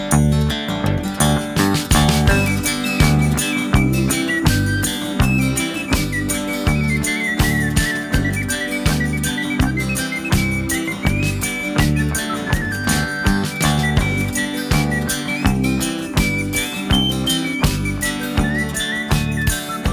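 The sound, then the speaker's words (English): An upbeat folk band plays steadily while a clear whistled melody rides over the strummed guitars and bouncing rhythm, loud throughout, with no talking. “Song makes me so damn happy.”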